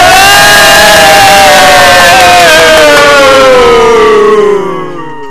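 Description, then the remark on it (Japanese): Loud crowd cheering and applause welcoming three guests fill the whole moment, joined by a drawn-out tone that slides steadily downward in pitch before everything fades away at the end. “はい、拍手。”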